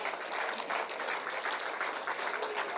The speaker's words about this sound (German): Ja, dann rufe ich die jetzt mal auf die Bühne, die beiden Spieler. Nämlich herzlich willkommen an ihrem freien Tag, Philipp Hofmann und Gerrit Holtmann. Bitte zu mir auf die Bühne, Applaus.